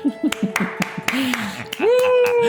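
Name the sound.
hand clapping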